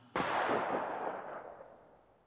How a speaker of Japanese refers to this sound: そして1911年10月10日の午後7時過ぎ一発の銃声が響いた。